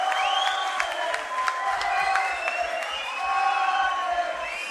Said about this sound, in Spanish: I l'únic que haig de dir, jo dic de tot cor perquè no dic mentides, és que crec que es mereix un fort aplaudiment de part de vosaltres!